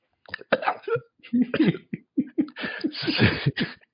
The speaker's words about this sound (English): She could hear the sounds of smacking lips. Gulping and choking.